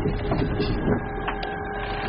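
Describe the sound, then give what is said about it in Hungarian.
A steady mechanical whir and electric hum as a car's electric drive and power steering servo motor start up once the red ready LED lights, with faint clicks and whines over a continuous low drone, without speech. “És most lehet hallani, hogy beindult a villamos hajtás, illetve a szervó motor, kormány szervó.”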